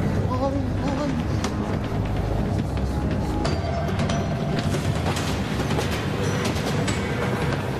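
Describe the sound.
A train rolls steadily along the rails with a loud, continuous rumble and scattered sharp clacks and rattles, while voices speak faintly underneath.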